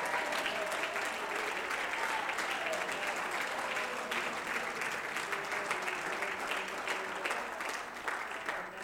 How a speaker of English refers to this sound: In the name of Jesus. Come on, clap your hands. Give God praise, thanksgiving.